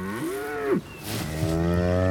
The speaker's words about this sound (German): Und das ist eine Kuh.